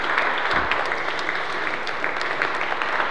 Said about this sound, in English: I'm not going to say the name right now, but I need a round of applause for God. Amen, this morning.